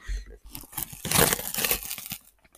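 Paper crinkling and tearing as a parcel is unpacked, a dense run of rustling, crackling bursts with sharper ripping noises in the middle, fairly loud throughout.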